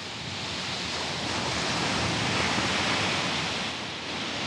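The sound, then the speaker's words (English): Steady, roaring wash of surf on a shore below cliffs, a broad hiss that swells slightly in the middle and eases toward the end, continuous, with no voices. “As I walk to the waves, I'm thinking of the water and sand”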